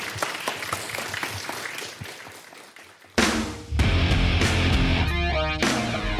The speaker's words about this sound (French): Vous pouvez applaudir maintenant, si vous voulez.